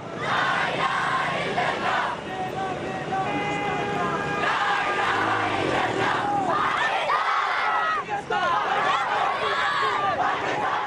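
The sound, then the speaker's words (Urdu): A large crowd of schoolchildren from various schools chants and shouts together in rhythmic bursts at a protest in front of the press club in Karachi, Pakistan, held under the Imamia Students Organisation, loud, with dense overlapping cries filling the whole stretch. “پشاور میں ہولناک واقعے کے خلاف کراچی میں امامیہ اسٹوڈینٹس آرگنائزیشن کے تحت پریس کلب کے سامنے مختلف اسکولوں کے بچوں نے احتجاج کیا اور شہدائے پشاور سے اظہار یکجہتی کیا.”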